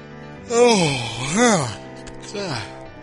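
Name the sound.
a yawn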